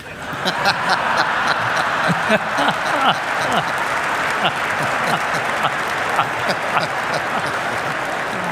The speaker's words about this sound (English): I think that applause came from all married people, okay.